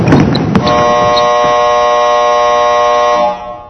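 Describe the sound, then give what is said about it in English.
A clothes dryer's end-of-cycle buzzer sounds one loud, steady, harsh buzz lasting about two and a half seconds, with some brief clatter just before it starts. “I think the dryer is off.”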